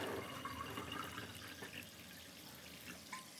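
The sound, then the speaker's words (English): Fizzy water pours steadily for a few seconds, a soft, continuous splashing hiss with a faint fizzing crackle, fairly quiet, with no voices. “Getting some more water.”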